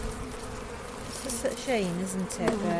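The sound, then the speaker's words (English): A low, steady buzzing of a handful of honeybees from a small, depleted colony at an opened hive, with individual bees droning past in sliding, wavering pitches over a constant hum. “There's just a handful of bees.”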